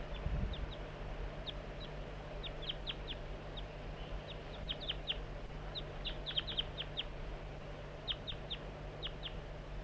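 A juvenile bird in a slanting pine gives frequent short, high-pitched calls, in scattered clusters throughout, exchanging calls with another bird, over a steady low hum with no voices.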